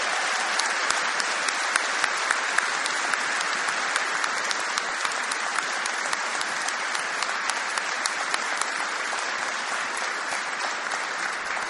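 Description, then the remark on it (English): Sustained audience applause for all of the students, a dense steady wash of many hands clapping at an even, fairly loud level for the whole stretch, with no voices breaking through. “Let's have another round of applause for all of our students.”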